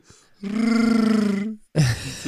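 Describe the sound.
A person voices a long, rumbling, warbling growl in imitation of a Wookiee to scare off a bear, held for about a second, then breaks off into a short rough vocal burst, loud.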